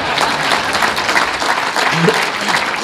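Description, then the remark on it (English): A crowd applauds steadily, a dense wash of many hands clapping at once, fairly loud and continuous for a few seconds, with faint voices mixed in underneath. “That wasn't set for the clap, by the way, but thank you.”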